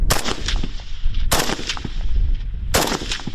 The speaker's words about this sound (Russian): оттачивает стрельбу из автомата.